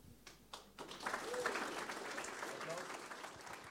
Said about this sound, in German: Applaus für